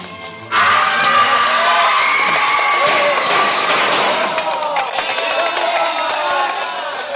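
A screaming, hysterical mob sweeps through the streets, driven on by the lashing whips of mounted police: a dense, loud roar of many voices shouting and screaming together, sustained without pause after a sudden surge at the start.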